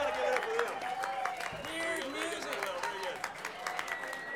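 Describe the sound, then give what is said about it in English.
A concert audience in Ballard, Washington applauds steadily, dense overlapping claps forming a continuous patter, with scattered voices and cheers rising above it throughout. “How about a round of applause for the audience?”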